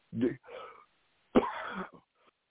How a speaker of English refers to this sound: Excuse me, y'all. I got this cough. Seems like I can't get rid of it.